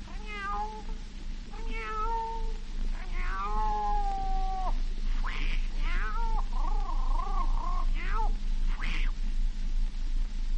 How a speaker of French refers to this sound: La chatte à minuit sur les toits.